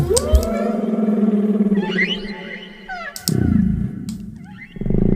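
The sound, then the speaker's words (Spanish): A blue whale vocalization: long, droning low moans layered with warbling, sweeping higher tones, several sounds overlapping at once, fairly loud and continuous with no talking. “Vamos a intentarlo con la ballena azul.”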